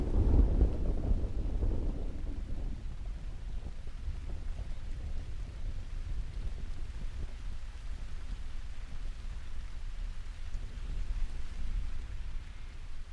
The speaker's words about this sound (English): Just wandering around the island in the rain.